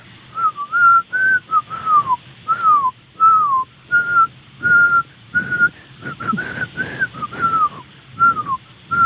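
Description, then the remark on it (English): A woman whistles a song tune for a caller to identify, in a steady series of short, bright phrases with slight pitch slides, fairly loud, with no talking over it. “Okay, I'm going to whistle something and you're going to tell me what song it is, okay?”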